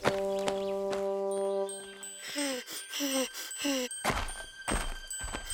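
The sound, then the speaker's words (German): Heavy, booming footsteps of two people thud loudly in an uneven stomping rhythm, following sustained musical tones and a run of short whooping electronic chirps. “Die Schritte der beiden waren so laut und donnernd für den ameisenkleinen Henry”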